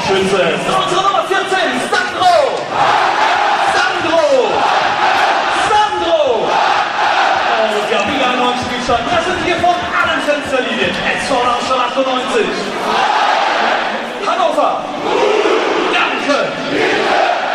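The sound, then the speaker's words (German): A packed home stadium crowd of SV Darmstadt 98 roars and cheers after Wagner scores to make it 2-1 against Hannover, a loud, sustained wall of shouting and chanting voices that swells and surges without pause for the whole stretch. “SV Darmstadt 98, 2, Hannover 1. Und feiert jetzt einfach mal zu Hause.”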